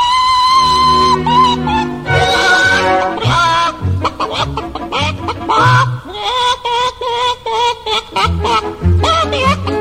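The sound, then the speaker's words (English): Mrs. Hen, a barnyard hen, clucks loudly in a lively, melodic run of notes, as if singing a tune at a barnyard concert, asked to sing the kiss from the opera Il Bacio, with musical accompaniment underneath the whole time. “One of the best singers of the whole barnyard, Mrs. Hen herself. Sing something for us.”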